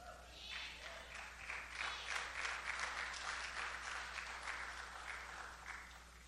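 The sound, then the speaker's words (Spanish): Sustained applause from an audience at a preacher's sermon, a dense wash of many hands clapping that swells after the start and holds steady for several seconds before easing slightly, with no speech over it. “Yo no vivo de sus aplausos, ¿ok?”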